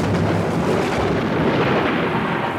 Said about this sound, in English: But as he walked through a thick forest, a terrible storm began.